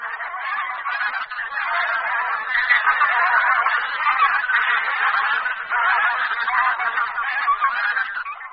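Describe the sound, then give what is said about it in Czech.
A dense chorus of bean goose calls, many honking, cackling voices overlapping continuously at steady loudness, like a flock calling together without pause. “Hlas husí polní je poměrně typický a v každém tom projevu je jasně slyšitelné dvou nebo tří slabičné ga, ga a nebo kajak.”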